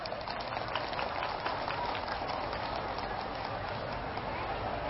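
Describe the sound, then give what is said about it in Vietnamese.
A large audience of Buddhist followers claps loudly and steadily for several seconds, a dense crackling wash of hands that holds at the same level throughout without fading. “Nếu các bà con Phật tử thấy rằng là nỗ lực vượt qua những điều đó là có thể thực hiện được trong tầm tay, và mình cam kết làm cho bằng được, thì hãy dâng cho một tràng vỗ tay thật lớn.”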